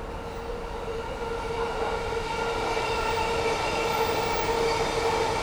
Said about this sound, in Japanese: 2番線にはまもなく三鷹行きの電車は到着でございます。